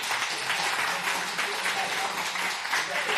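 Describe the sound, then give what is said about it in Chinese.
An audience applauds steadily in response to a pastor's message, a dense, continuous wash of many hands clapping at an even loudness from start to finish with no clear individual claps standing out. “相信大家都有得着，我们用掌声来回应我们所领受的，好吗？”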